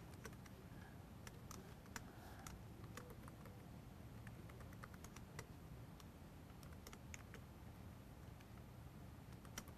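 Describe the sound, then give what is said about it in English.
Quick, irregular keystrokes clatter on a computer keyboard as a password is typed to create an HDInsight Storm cluster. The typing is fairly quiet, with short bursts and pauses over a steady low background hum. Nobody speaks. “I make sure that I hit all the same keys, and then you just say, okay.”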